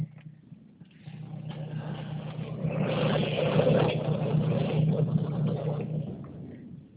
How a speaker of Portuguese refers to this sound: Então, o carro está ligado.